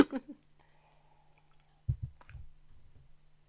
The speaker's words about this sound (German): Jetzt muss ich hier einmal eine kurze Pause machen und einen Schluck Wasser trinken. Vielleicht kann man das hören.